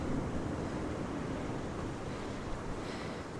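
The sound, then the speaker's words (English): Steady roar of ocean surf washing against the shore, a dense, continuous rush with some wind noise, no voices, holding at an even level throughout. “I see the wild ocean before me.”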